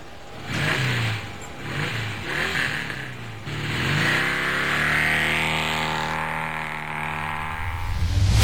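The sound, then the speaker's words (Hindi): A vehicle engine comes to life with a few short, throaty revs, then settles into a sustained rising whine as it accelerates, loud and close, with no one talking. “अरे हम तो भुलाइए गए रही, चल चला बैठा गाड़ी पर।”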